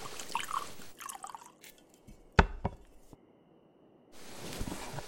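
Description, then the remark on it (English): Brandy pours into a glass in soft, splashy bursts, broken by a couple of sharp glassy clinks midway, then a pause before a final trickling pour. No one speaks. “Just pour.”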